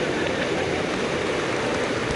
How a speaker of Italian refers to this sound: L'applauso dei volontari.